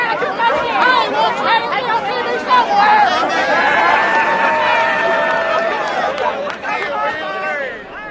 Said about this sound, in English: The company crowd hooted and hollered at James Hansen and Daryl Hannah as they were arrested. Well, that video clip came from West Virginia Public Broadcasting, recorded June 23rd, 2009.